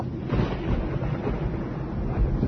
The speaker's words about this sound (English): We're about to fly into a real heavy storm with thunder and lightning and all that kind of stuff. Well, I hope you've got plenty of insurance, folks, because here we go.